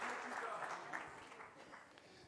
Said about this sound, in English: I think he deserves another round of applause. Him, right? Amen.